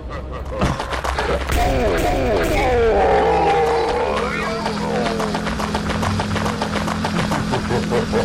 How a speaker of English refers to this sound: I don't think that's human. It sounds like a lion.